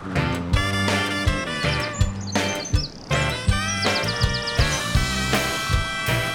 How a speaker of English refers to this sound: There are those birds again. I hope they don't eat any more woolly thread. Did anybody bring any bird seed? Throw some bird seed at them.